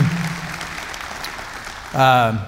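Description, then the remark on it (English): An audience at the first in-person service of the morning claps steadily for about two seconds in praise of God, a dense even patter of many hands, before a man's voice cuts in loudly near the end. “Let's give God a hand clap of praise, would you, that we can do that.”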